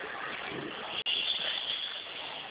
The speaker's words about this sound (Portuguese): É que passou o ônibus com barulho.